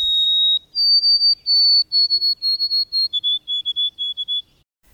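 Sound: white-throated sparrow whistled song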